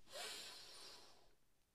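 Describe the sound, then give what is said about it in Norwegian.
A single deep breath drawn in through the nose during a breathing exercise before holding the breath, a soft airy hiss that swells quickly and then tapers over about a second, with no talking. “Pust godt inn”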